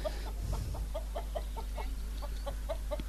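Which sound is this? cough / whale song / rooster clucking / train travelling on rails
rooster clucking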